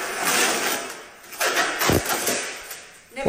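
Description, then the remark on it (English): A protective plastic sticker being peeled and ripped off a new dishwasher, a rough, hissy tearing that comes in uneven surges, rising and fading across a few seconds with no talking. “What's that ripping sound”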